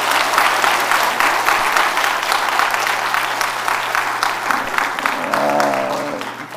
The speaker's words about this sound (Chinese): 哇！点解仲唱得好过我哋啲男人啊？你哋话系咪啊？真系，再俾啲掌声佢哋。